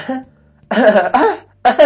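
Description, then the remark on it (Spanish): A person coughs in a short rhythmic pattern to the rhythm of Star Wars, a run of loud bursts timed like a melody, with a brief pause before the last two quick coughs. “El ritmo de Star Wars, güey.”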